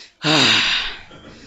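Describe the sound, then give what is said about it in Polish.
A single loud, audible intake of breath from audience members, like a sharp gasp, bursts in suddenly and trails off over about a second, with no talking around it. “Ja już słyszę, że niektórzy oddychają.”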